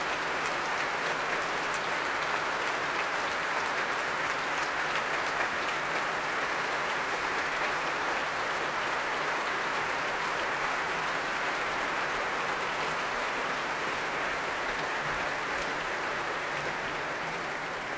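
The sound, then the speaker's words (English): A large audience of about 6,000 claps steadily in the Royal Albert Hall for Alice Sada Ott, a dense, even wash of applause that holds at full strength throughout with no speech over it. “Well, as the applause dies down for Alice Sada Ott, it's time for the interval”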